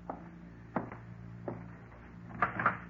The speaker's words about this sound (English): Ain't you going to open the door? Yeah.